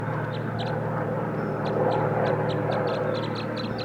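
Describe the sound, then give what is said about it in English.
Wild birds chitter in short, high, irregular bursts scattered throughout, set against a loud, steady low droning hum that runs the whole time. “Here comes the other, and they're chittering a little bit.”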